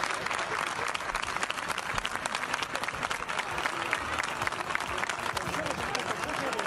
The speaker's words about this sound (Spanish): Pero en el minuto 12, la afición del Navalcarnero le tributó esta ovación al Cerceda. 12 horas estuvieron en el autobús, en el minuto 12, esta ovación.